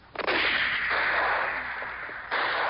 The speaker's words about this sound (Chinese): 砰砰的枪声每次都把山里的飞鸟跟野兽吓坏了，逃得一只也不见，只有几十只猴子悄悄躲在浓密的树丛后面偷看戚家军立起二三十面大靶，拿枪射击画在靶上的人。